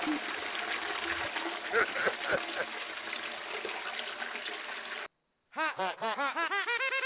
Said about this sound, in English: I'm going to flush your shit. You know what? Flush your damn shit.